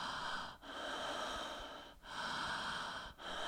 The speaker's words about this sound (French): Et simplement avec cette respiration, où là, on va... Une respiration toute simple.